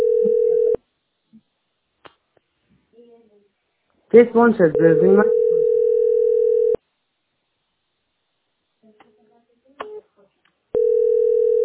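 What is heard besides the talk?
telephone ringback tone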